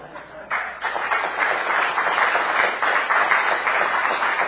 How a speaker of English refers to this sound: I will then have the congregation applaud and probably get so anointed I'll preach another hour.